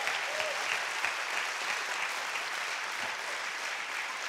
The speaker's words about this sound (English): Can I get an amen? If you received anything, give the Lord a hand clap of praise with him.